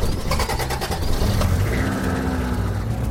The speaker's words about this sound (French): Vous verrez, dit papa qui alluma le moteur.